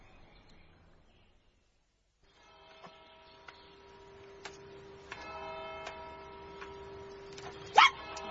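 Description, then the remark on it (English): After a short silence, a clock bell strikes six o'clock, each chime ringing on and overlapping into a sustained, humming tone, with a louder, sharper sound near the end. “Oh, 6 o'clock. Within the hour, he will be with me.”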